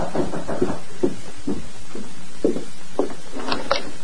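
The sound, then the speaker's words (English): Someone knocks on the wooden door of the Miller Ranch House, a steady series of about eight dull, moderately loud raps spaced roughly half a second apart, ending with a quicker pair, with no voices. “Meantime, at the Miller Ranch House, Jim Miller was in the living room when a knock sounded at the door.”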